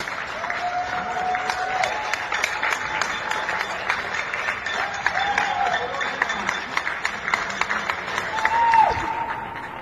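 An old recording of a crowd applauding: dense, steady clapping from many hands that carries on for about ten seconds, with faint thin tones sliding through near the end.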